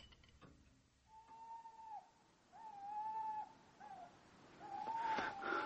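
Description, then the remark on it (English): An owl hoots at night, giving four long, steady, slightly wavering notes with short pauses between them, clear over a faint hissing background, with no one talking. “There's owls and bats and large fairy creatures with claws.”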